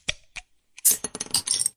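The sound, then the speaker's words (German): Branded Feierabendrunde beer glasses clink together in a toast: two separate bright clinks, a short pause, then a rapid flurry of ringing glass knocks and rattles. No voices are heard. “Wir haben Feierabendrunden-Biergläser.”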